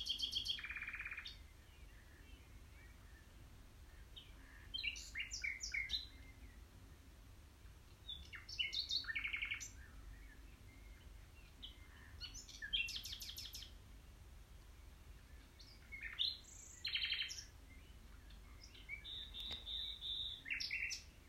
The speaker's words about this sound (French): Il s'est assis devant le cerisier, avec eux, et ensemble, ils ont écouté le chant parfait du rossignol.